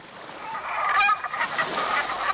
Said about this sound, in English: 50 years ago, walking along the shores of Puget Sound in fall and winter, you would have been much more likely than today to hear the calls of Black Brant, also called Pacific Brant, a small, elegant, black, brown, and white tidewater goose.